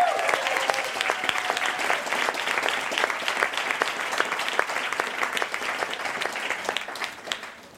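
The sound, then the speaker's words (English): An audience at the New School claps steadily for several seconds, at an event for a dialogue between bell hooks and Cornel West, a dense, sustained wash of applause that gradually thins and fades out near the end. “Yeah, that's worth another applause.”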